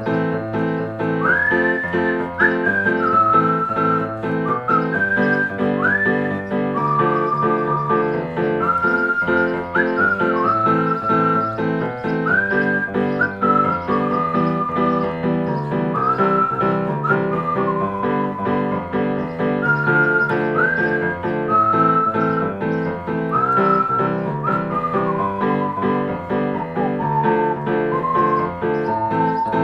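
Someone whistles a lilting tune in clear, high notes with little upward slides, carried over a steady, full instrumental accompaniment that continues throughout at an even loudness.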